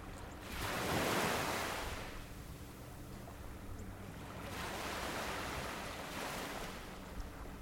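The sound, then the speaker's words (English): Ocean waves wash onto a desolate beach on Cape Cod, New England, in two broad surges, each swelling into a loud hiss of surf and then receding, with a steady low rumble of water between them and some peripheral traffic in the background, recorded close by. “I found a desolate area and was able to set up my recording equipment and get really close to the waves.”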